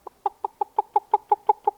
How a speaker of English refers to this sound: Now, over across the way under the orange tree is the mother hen with her brood of biddies trying to scratch out a living for them.